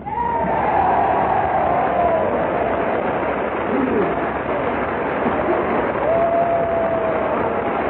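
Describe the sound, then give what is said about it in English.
The whole US House of Representatives and the gallery rise and applaud, Democrats and Republicans alike, as General Douglas MacArthur comes down the aisle toward the Speaker's rostrum: dense, steady clapping mixed with crowd noise fills the whole stretch without a break, loud and even, with a faint thin tone drifting above it. “The whole House and the gallery rises and applauds as General MacArthur, followed by a delegation from both houses of Congress, comes down the aisle toward the Speaker's rostrum.”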